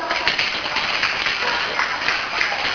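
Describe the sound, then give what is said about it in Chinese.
A class applauds the first group, many hands clapping together in a dense, steady patter of sharp claps that keeps an even loudness for a few seconds. “好，跟第一组鼓掌一下。”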